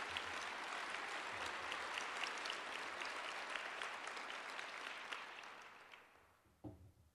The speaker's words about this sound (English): And most importantly, El Paso County added almost 9,000 jobs in 2015. Our unemployment, that's worth some applause.